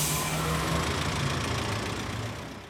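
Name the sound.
bus engine idling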